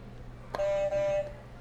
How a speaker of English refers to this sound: Well, can you press another buzzer for me?